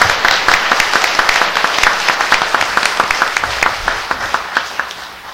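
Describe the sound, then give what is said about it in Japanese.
An audience applauds steadily for several seconds to honour a teacher's appointment at the head temple Zentsū-ji, many hands clapping in a dense, even patter with a few sharper individual claps standing out, tapering slightly toward the end. No one speaks. “これはもうすごいことでして、ちょっと皆さんの拍手いただきたいなと思います。”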